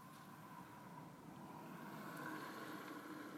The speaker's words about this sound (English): There was a car parked away over to my left. Now that one is going.